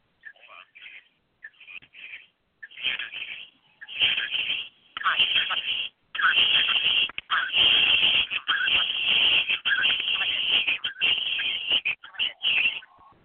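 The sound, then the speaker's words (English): The Midland County Fair rodeo's background clamor comes through a thin, tinny phone line during a live broadcast: muffled announcing and crowd noise in bursts at first, then a steady, fairly loud wash. “You can hear the Midland County Fair rodeo going.”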